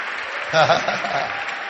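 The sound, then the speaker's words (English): A standing audience claps steadily, a dense, even patter of many hands that holds for the whole stretch, with a brief voice rising over the applause partway through. “You can clap, but you must still stand.”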